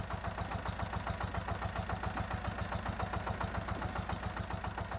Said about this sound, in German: Dahinter sieht es sehr ländlich aus, Hühner und Katzen laufen herum, eine Maschine rumpelt laut, angetrieben von einem Dieselgenerator.